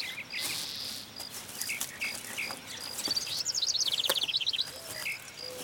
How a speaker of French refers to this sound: Des fois, je t'aime. Plus que le bruit des oiseaux ?